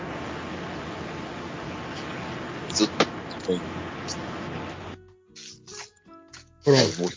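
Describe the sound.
Steady roaring rumble and hiss from inside a moving bus, thin and compressed as if through a call microphone, with a few knocks, then it drops away and a brief voice follows.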